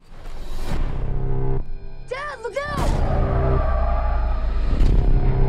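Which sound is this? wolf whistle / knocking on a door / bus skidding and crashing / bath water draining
bus skidding and crashing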